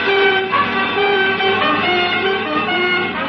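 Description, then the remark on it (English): A car speeds along a street, its loud, steady engine roar humming with droning tonal overtones and traffic noise. The sound holds continuously with no voices. “As you speed along the street, it suddenly occurs to you exactly what's happened.”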